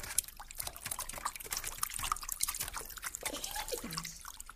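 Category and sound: household object, water splashing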